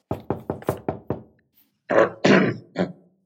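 Knocking on an officer's door as he sits at his desk: a quick, even run of about seven sharp raps, then a brief pause and three heavier, louder thuds.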